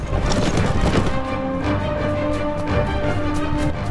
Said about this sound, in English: moving deeper into the forest as the horses' hooves thunder across the carpet of leaves.